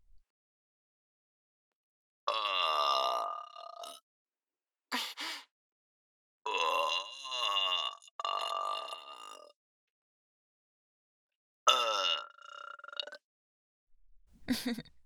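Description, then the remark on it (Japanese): A woman lets out a series of long, throaty burps, five or six in a row, fairly loud, with short pauses of silence between them. “女性のゲップなんて初めて聞いたと思いますけど、想像以上にチンポに来ますよね。”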